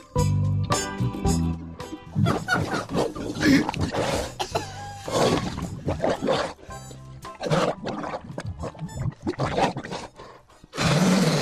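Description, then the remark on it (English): Someone bobs for apples in a game, with loud irregular bursts of splashing water, snorting and gurgling grunts that sound almost piglike, broken by brief pauses. “So here is the one that doesn't speak, and he is bobbing for apples, starting now.”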